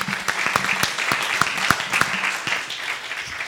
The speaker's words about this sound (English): Amen. Let's give the Lord a clap up.